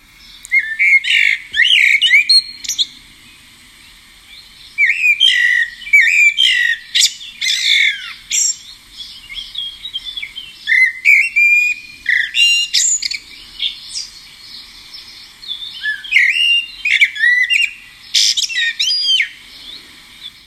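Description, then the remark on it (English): A blackbird sings in repeated phrases, each mellow warble breaking off into a burst of short, scratchy, squeaky staccato notes, with brief pauses between phrases and no voices. “There's a number of very staccato, short, clipped, scratchy, squeaky notes at the end.”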